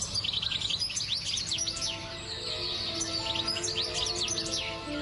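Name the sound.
songbird singing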